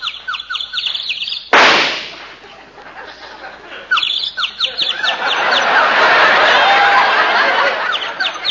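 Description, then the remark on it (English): A small bird sitting in a tree chirps in quick, repeated high tweets throughout, clear, interrupted by a sudden loud bang early on, with a rushing background noise building toward the end. “You see that little bird sitting up in that tree?”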